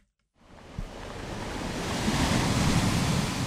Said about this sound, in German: Die Wellen klatschen an schrundige, rotbraune Felsen. Die sehen aus wie riesige Kleckerburgen. Sind sie ja eigentlich auch. Es ist erstarrte Lava. An den Klippen gurgeln hellblaue Strudel mit weißen Schaumkronen.